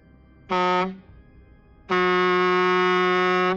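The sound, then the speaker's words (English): A truck horn blares twice, a short blast followed after a pause by a long, sustained one, loud and brassy with a steady low-pitched buzzing tone. “Santosh slammed the truck's horn a few times in elation, much to the surprise of the driver.”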